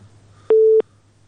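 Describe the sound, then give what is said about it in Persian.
A single short, loud telephone busy tone beeps once, a steady mid-pitched electronic tone about a third of a second long, over a faint low hum after a call has disconnected. “د دوی اړیکه لمک سره پریښو.”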